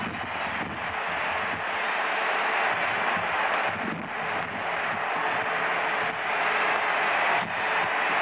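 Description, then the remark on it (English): A large crowd on Broadway roars and cheers at midnight as 1970 arrives, in one dense, unbroken wash of voices, loud and steady throughout, with no single voice or pause standing out from the mass. “It's 1970, and listen to the crowd below.”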